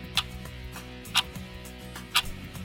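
A clock ticks steadily, three crisp clicks spaced about one second apart, clear, over a soft low hum in the background.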